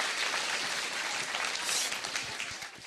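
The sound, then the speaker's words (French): An audience bursts into sustained applause for performers who played characters, a dense wash of many hands clapping steadily and fairly loudly for a few seconds with no voices standing out. “Est-ce qu'on peut les applaudir bien fort, nos personnages?”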